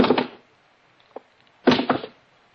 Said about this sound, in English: First thing I did was take off the shoes and drop them one by one on the floor.